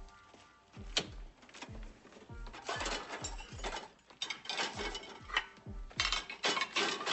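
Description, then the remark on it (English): Busy clattering of dishes being loaded into a dishwasher: a rapid run of clinks, knocks and low thumps as plates and racks shift, with no one talking. “I'll just put them in the machine.”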